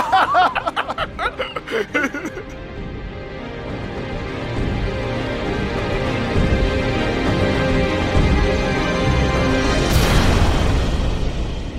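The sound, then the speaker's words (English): Brief chuckling opens, then a deep, sustained rumbling boom builds and rolls on, capped by another loud, broad explosive blast near the end. “Panic explosion behind you.”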